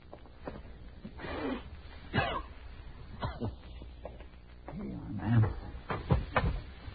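A wooden chair is pulled up for a guest and set down, a series of scrapes and hollow knocks spread over several seconds, with faint voices murmuring in the background.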